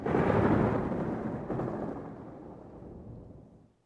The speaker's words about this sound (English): Rip can hear the thunder, but he can't see the storm.